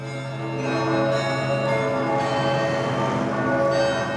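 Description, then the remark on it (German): Church bells of the town of Halle, Germany ring at 11:45 in remembrance of an attack, several bells overlapping into a dense, sustained peal with rich ringing overtones, steady and fairly loud throughout with no voices. “Um 11:45 läuteten die Kirchenglocken der Stadt zur Erinnerung an den Beginn des Anschlags.”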